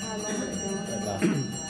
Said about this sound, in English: It goes three times, so maybe if you speak a bit louder. Shall I just talk between the bells?